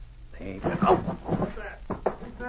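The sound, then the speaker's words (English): A wooden door, pushed quietly by a Mountie, creaks open on its hinges with a drawn-out, groaning squeal, then bumps shut with two quick, solid knocks as they enter a darkened room, all at moderate volume. “The Mountie pushed it quietly, and to Jim's astonishment it swung on its hinges. They entered a darkened room, shutting the door behind them.”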